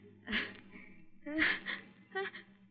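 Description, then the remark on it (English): A woman sneezes twice in quick succession, each a sharp, breathy burst about a second apart, followed by a softer intake of breath; the sneezes are brought on by the sun. “I always sneeze exactly twice, and then I'm all through.”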